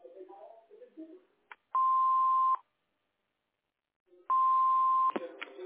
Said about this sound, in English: Record a message at the beep.